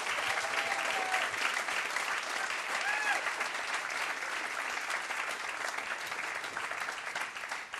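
Steady audience applause, a dense crackle of many hands clapping at a constant loudness for several seconds, with a couple of brief whoops rising above it.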